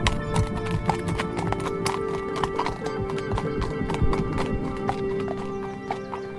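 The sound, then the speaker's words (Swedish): Horse hooves clip-clop in a steady, even rhythm, fairly loud, with the sharp hoofbeats repeating throughout over a faint sustained hum in the background. “En dag på väg hem från skolan såg jag en flicka som red på en silvrig häst.”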